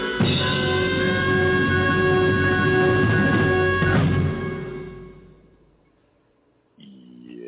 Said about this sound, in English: I like that. That is a good one. I like absolutely that, the train whistle sound. That harmonica playing, just it kind of fits the mode of something a little, well, not just lighter, but almost homespun, so to speak.